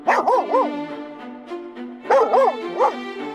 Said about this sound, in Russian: Ой, у них тоже собачка. Только не такая злющая, как у эсэсовцев.